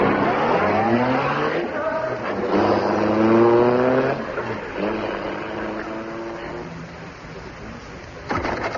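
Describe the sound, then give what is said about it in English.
A taxi's engine revs and accelerates through several rising gear shifts, its droning pitch climbing and dropping, then the motor noise tapers off as the taxi drives away. “Taxi!”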